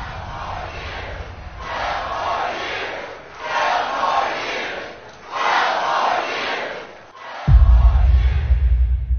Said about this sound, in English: And that ad from the Lincoln Project at the end, the crowd chanting 12 more years on screen, the message, stop him or it will never stop.